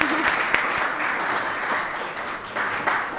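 Steady applause from an audience, a dense, continuous wash of many hands clapping at an even loudness, with a faint voice briefly audible near the start.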